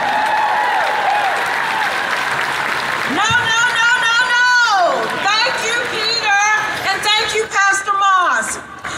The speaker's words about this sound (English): Come on, give God a hand clap.